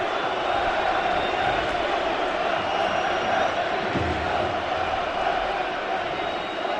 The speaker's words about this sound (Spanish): Mira, la gente aprovecha otra vez para gritar Bartomeu dimisión. Vamos a escuchar al pueblo.